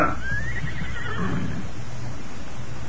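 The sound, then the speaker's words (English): A horse whinnies loudly, a rising then wavering neigh lasting about a second and a half, over a steady low rumble of background noise, as the Lone Ranger and Tonto stop to water their horses at a narrow stream running along a ridge. “Lone Ranger and Tonto stopped to water their horses at the narrow stream that ran along the ridge where they had been riding.”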